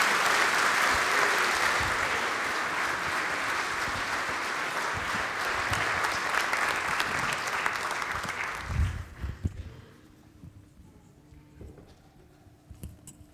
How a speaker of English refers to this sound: I think we'd give them a big cheer as we get ready for baptism.